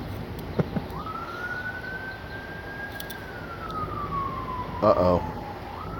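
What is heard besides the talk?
emergency siren passing outside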